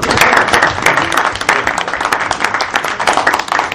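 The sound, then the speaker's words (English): Sustained audience applause, a dense, steady wash of many hands clapping at once, loud and continuous for several seconds with no voices standing out. “It's really that I think all of us owe a big round of applause to the man who's responsible for all this.”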